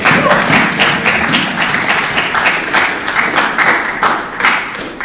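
A crowd applauds steadily for several seconds for someone's birthday, a dense, even wash of many hands clapping at a loud, sustained level with no voices standing out.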